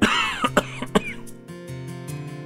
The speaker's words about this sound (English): but before I knew it, the inevitable happened. I couldn't hold it any longer. I coughed.